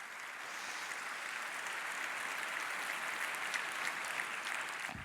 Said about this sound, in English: Applause.